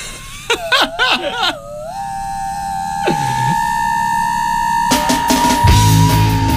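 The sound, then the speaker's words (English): A short piece of theme music, cued up for a game round on a show, built around a loud, high screaming wail that warbles up and down, then holds one long piercing pitch while noisy crashing bursts hit near the end. “What, that person screaming loudly was the wrong theme music?”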